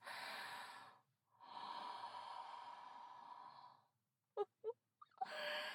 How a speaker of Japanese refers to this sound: 吐息をかけられただけでビクビクしちゃう。